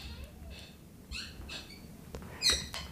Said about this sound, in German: weil ich habe einen neuen Bürostuhl und der quietscht. Das ist sehr unangenehm. Klingt, als hättest du so ein Wellensittich oder so ein Papagei im Hintergrund sitzen.